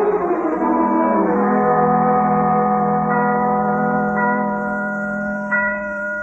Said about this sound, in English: what are those bells?